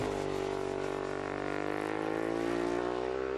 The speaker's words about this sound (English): That's a Ducati 1098R. Xerox sponsors a team of the racing superbikes.